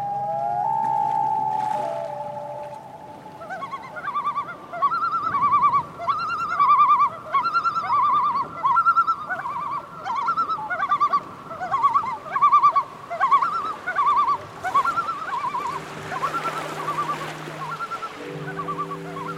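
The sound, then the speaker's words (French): Birds on perches in a structure above a suspended organ chirp and call in quick repeated bursts over steady, sustained organ tones that hum underneath throughout. The birdsong is fairly loud, and no one speaks. “Ce sont des perchoirs qui permettent en fait aux oiseaux de vivre et d'être proches en fait du son qu'ils entendent.”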